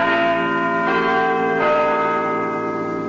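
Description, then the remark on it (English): Little John, Nottingham's city clock bell, chimes loudly and alone, its rich, sustained tones ringing and overlapping with new strikes around one and 1.6 seconds, marking BBC Radio Nottingham going on the air. “And the chimes of Little John, Nottingham's city clock, signal the fact that Radio Nottingham is officially on the air.”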